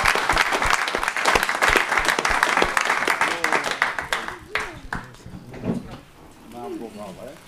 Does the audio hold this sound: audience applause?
yes